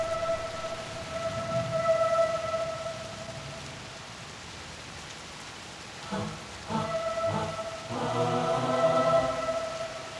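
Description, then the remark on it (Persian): Steady rain in Macondo hisses throughout, with low rumbles of thunder, while a sustained tonal drone sits over it and brief louder bursts swell near the end; there is no talking. “ایزابلا در تماشای باران در ماکوندو.”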